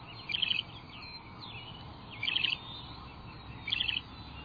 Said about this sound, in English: But this bird of prey is a songbird, a bit smaller even than a robin. It's a loggerhead shrike.